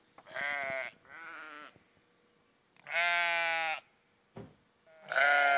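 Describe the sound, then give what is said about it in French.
Several sheep bleat in turn in the morning, loud wavering calls with rich harmonics, four long bleats separated by short pauses, plus a brief sharp knock between the last two. “Ils nous accueillent toujours comme ça le matin.”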